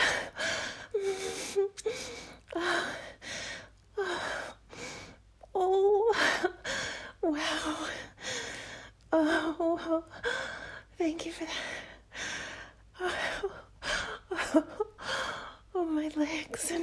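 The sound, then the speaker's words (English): Heavy, rapid breathing, a steady run of loud gasping inhales and exhales with occasional whimpering breaths, continuing throughout without any clear speech. “I'm breathing so hard, my boobs are trembling.”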